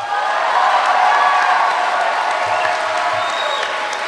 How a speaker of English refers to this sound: The 1,500 people jump to their feet. They hoot and clap for more than a minute.